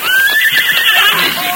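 horse neighing

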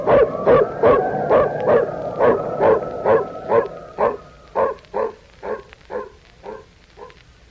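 dog barking

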